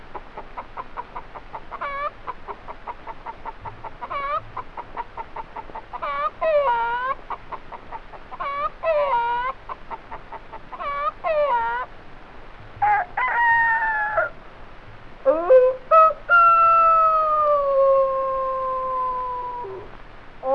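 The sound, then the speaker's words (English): A person imitates a hen's rapid, repeated cackling, then breaks into several long, drawn-out rooster crows, a hen cackling with a rooster chorus. The loud calls build toward a sustained final crow. “A hen cackling with a rooster chorus.”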